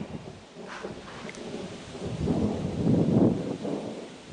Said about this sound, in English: There's the thunder.